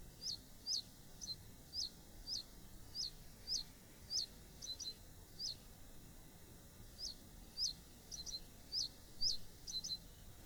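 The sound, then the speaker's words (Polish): A bird sings a steady series of short, high, sharp syllables repeated about twice a second, pausing briefly midway before resuming, clear against a quiet outdoor background. “Ptaki czasem stosują niewielkie odstępstwa od tego ogólnego schematu.”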